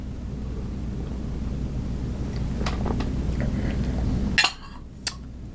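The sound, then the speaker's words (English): A cup of tea is set down on a tile coaster with a lighthouse on it, making a hard ceramic clack, followed by a second, lighter tap, after a steady low rumbling hum that cuts off at the first knock. “That's my noisy coaster.”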